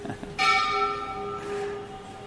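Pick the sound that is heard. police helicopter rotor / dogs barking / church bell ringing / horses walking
church bell ringing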